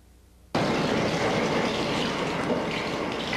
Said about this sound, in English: That's only water from a faucet, you say.